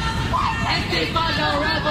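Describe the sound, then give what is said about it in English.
A crowd of protesters at the Foggy Bottom campus in Washington, D.C. chants as arrested protesters are put into D.C. police vans: a large crowd of voices in a steady, overlapping roar, with raised shouting tones cutting through a constant babble and low rumble underneath throughout. “You can hear the crowd chanting as they are put in D.C. police vans.”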